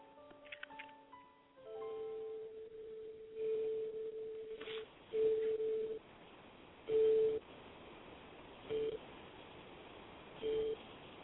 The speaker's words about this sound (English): And you know, boys and girls, we call that a grandfather's clock.